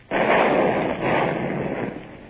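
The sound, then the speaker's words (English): A ship's cannons fire a broadside at a road with a sudden heavy boom, then a second blast a second later, both trailing into a long, rumbling roar. No voices are heard. “Gerard, train the guns on the road and only fire when I give you the signal.”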